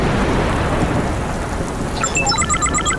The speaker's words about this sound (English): It's very dry here. Some parts of the Sahara get less than 2 centimetres of rain every year. It hardly ever rains, but when it does, it usually comes down all at once. Here we go!